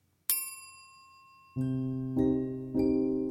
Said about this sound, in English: A bell rang. Okay, that's 20 minutes, our host said, giving us an opportunity to rearrange and cuddle with new people.